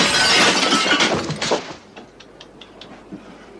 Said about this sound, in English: I went, "Oh, no, not throw a typewriter through a window again." I think we did it 3 times